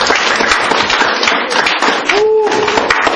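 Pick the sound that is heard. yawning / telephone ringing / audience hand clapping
audience hand clapping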